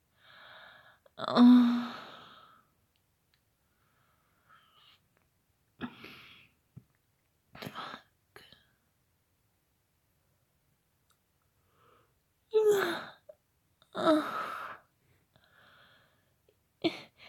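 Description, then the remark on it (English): A breathy yawn with a brief voiced groan at its peak, followed by several shorter airy breaths and sighs separated by quiet pauses. “Yeah, that may have been a little bit of a moment after that yawn.”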